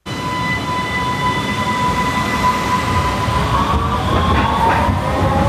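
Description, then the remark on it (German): A U-Bahn line 1 train rumbles into the underground Stephansplatz station in Vienna, where a train arrives every 5 minutes: a steady loud roar with high squealing wheel tones and hissing brakes as it slows, no voices present. “Die U-Bahn-Station am Stephansplatz in Wien. Alle 5 Minuten fährt ein Zug der U-Bahn-Linie 1 ein.”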